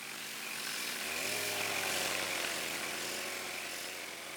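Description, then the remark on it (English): A steady, loud mechanical whine of a chainsaw running and cutting through wood, with a low engine drone that settles in after a second and holds without talking. “Now we're using chainsaws and planers and sanders.”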